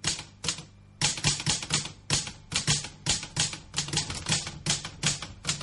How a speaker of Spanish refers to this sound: Igual pido disculpas, traje la máquina de escribir porque la netbook se me quedó sin sistema operativo recién.